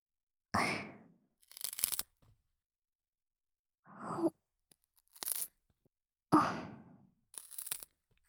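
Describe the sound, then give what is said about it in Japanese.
Unused parts of flower stems are being cut off in three rounds, each a crunchy snip followed by a brief, higher rasping tear, with short quiet gaps between. No one speaks. “お花の使用しない部分を切っている音なんですが。”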